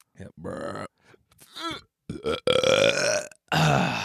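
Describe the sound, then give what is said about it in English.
A man lets out a series of loud, drawn-out belches, several long guttural bursts separated by brief pauses, with no one talking. “just take a big ass belch. Big old belch.”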